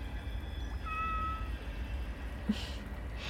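A single short, thin meow from a cat called Mimi rises briefly over a steady low rumble, followed by a couple of soft rustling hisses; no one speaks.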